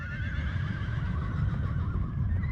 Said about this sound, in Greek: Τα άλογα τώρα που ήταν μέσα, τα 800 άλογα, όπως έβοσκαν, σηκωνόταν εδώ και το ανέβαζε το άλογο απάνω στην κορφή. Έβγαινε το άλογο απάνω, έπεφε στα γόνατα, δεν μπορούσε να στηριχθεί και χλιμήτριζε. Έκανε το χλιμητρισμό.